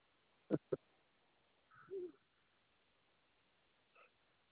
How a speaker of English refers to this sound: Look at that. You got a little dove over there.